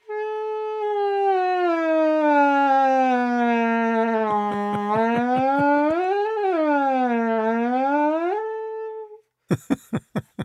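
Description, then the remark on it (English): A breathy wind instrument with one long hole down its side slides smoothly in pitch as the player presses a long fabric strap to lengthen or shorten the hole, a glissando rising, dipping and gliding for about nine seconds in one sustained, wavering tone, followed by a few short, sharp plucked or tapped notes. “And the player kind of presses down a long strap, like literally just a fabric strap, to make that hole longer or shorter, which means you can do a glissando or a slide.”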